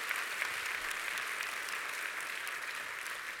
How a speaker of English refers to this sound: So welcome back to all of our missionaries. Let's give them just a round of applause to show them our support.